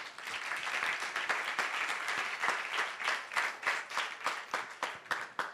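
An audience breaks into sustained applause, many hands clapping in a dense, steady patter that stays loud for several seconds before thinning into more distinct individual claps near the end.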